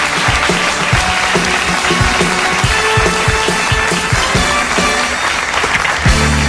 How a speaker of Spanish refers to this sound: Muchísimas gracias, amigos, por este regalo desde la Baviera. Un aplauso para Pollo Bavierés.